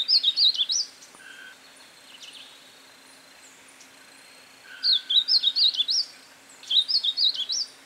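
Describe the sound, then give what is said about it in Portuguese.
A negrinho-do-mato bird, singing free in nature, sings three bursts of quick, high, bright chirping notes, clear, with quiet pauses between phrases and no talking. “Agora é a vez do negrinho do mato.”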